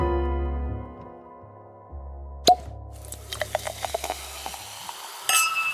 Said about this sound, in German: Ihr hört ganz richtig, diesmal knallt ein Sektkorken in Mikas Matrix.